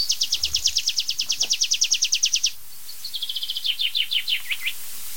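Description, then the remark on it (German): A tree pipit sings during its display flight: a fast, ringing trill of repeated notes, followed by a slower, descending series of sweet notes ending the phrase with an ornate flourish. Clear, with no talking. “Da darf ich euch vorstellen, mein lieber Freund, der Baumpieper.”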